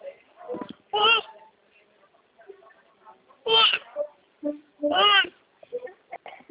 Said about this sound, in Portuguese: Ih, tem um neném conversando aí, né?